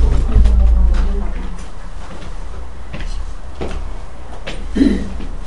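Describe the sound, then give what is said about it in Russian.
A door, caught in a draught from open windows, swings and bangs shut with a heavy low thud, followed by a few scattered knocks and creaks, with faint voices murmuring. “Захлопывается дверь.”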